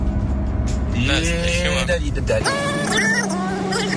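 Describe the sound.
A steady low engine rumble and road drone fill the cabin of a moving car, a grandfather's car climbing uphill, with people talking over the constant hum.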